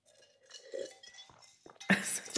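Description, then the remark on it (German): A single short, harsh cough bursts out near the end, loud, after a moment of faint ringing, clinking sounds. “Huster darauf.”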